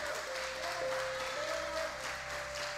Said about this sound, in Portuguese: Então grite, então aplauda Jesus se você precisa de um milagre.